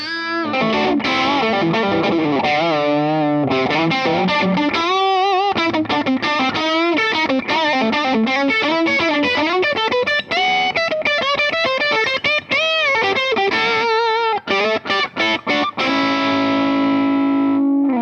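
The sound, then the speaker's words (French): A heavily distorted electric guitar plays a continuous melodic passage with bends and sustained notes, loud, with an overdrive pedal driving the following distortion pedal harder to raise the gain, and no voices. “Le son avec l'overdrive.”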